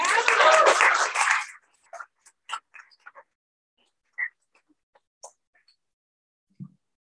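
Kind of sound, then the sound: crowd, applause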